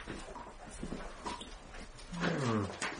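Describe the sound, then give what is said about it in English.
A dog sniffs around in a few quick, breathy bursts, then gives a brief, low whining sound near the end. “I'm only a dog. I suppose I must check the bedroom. Carry on. I'm going to sniff about here.”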